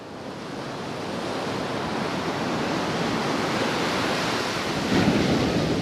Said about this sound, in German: Meterhohe Wellen klatschen an den sandgelben Strand, das Wasser glitzert grün im Sonnenlicht.